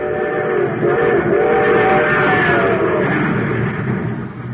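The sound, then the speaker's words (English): A train, the Terra Express of a Space Patrol story, races along at full speed supercharged with super fuel, a steady loud rumble and clatter with a sustained whistle-like tone wavering above it, no voices. “Yes, sir, that train's really traveling now because it's supercharged with super fuel.”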